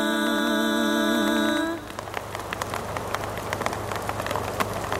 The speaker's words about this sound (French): Là, il commence à pleuvoir, là.